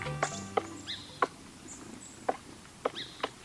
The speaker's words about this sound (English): A familiar sound of spring. A woodpecker hard at work, carving out a nest hole in a tree trunk.